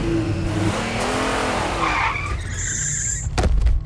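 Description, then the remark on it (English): A car engine roars and revs hard as the driver hits the gas and lets off, then tires let out a sharp, high squeal as the vehicle skids on pavement, ending in a brief heavy thud. “I hit the gas hard and let off, making the undulate tumble to the pavement.”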